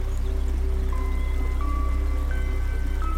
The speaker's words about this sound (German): Mitten in diesem schönen Wald ist eine Lichtung. Eine Wiese mitten im Wald und durch diese Wiese fließt ein Fluss. Den schauen wir uns jetzt an.